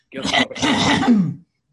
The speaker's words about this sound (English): And I'm going to have to clear my throat. I've got my morning cough here.